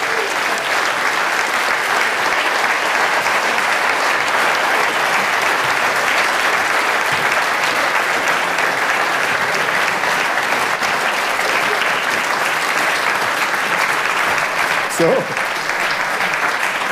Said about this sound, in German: Marc Girardelli, Pirmin Zurbriggen, bitte einen grossen Applaus.